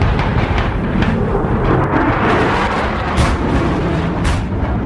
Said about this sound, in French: Dans le vacarme assourdissant des tirs d'artillerie de marine, du balai des hélicoptères et des chasseurs-bombardiers, des chalands de débarquement se détachent du Dixmude et du navire néerlandais Johan de Witt dans le sud du fjord de Trondheim.